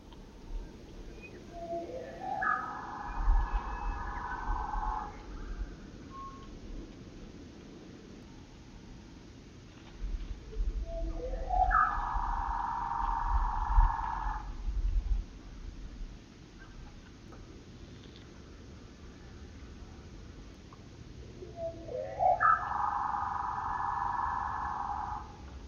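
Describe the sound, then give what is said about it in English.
A red-winged blackbird trill played at one-third speed, repeated three times: each a buzzy, drawn-out burst of about two seconds, spaced well apart over a low, rumbling background. “Red-winged blackbird trilling 1/3 speed.”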